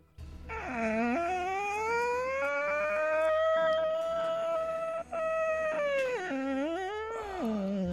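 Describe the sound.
A voice imitates the creaking oaken door of a spooky tower with one long, loud, strained groan that swoops up, holds, dips and rises again in pitch, breaking off only briefly before trailing away.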